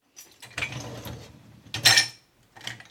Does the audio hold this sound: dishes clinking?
yes